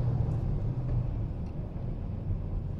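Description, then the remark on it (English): A manual-transmission car's engine hums low and steady, its tone shifting slightly as the driver downshifts during a test drive, with no voices over it. “Shifting down.”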